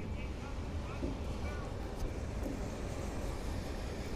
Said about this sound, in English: Looks like a train full of scrap metal going by.